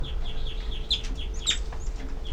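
Baby birds give a steady run of thin, high-pitched begging calls, short chirps repeating quickly and overlapping, over a low rumbling background with no talking.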